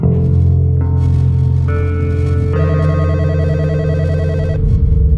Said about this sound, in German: Bei Spitzers in den Niederlanden klingelt das Telefon.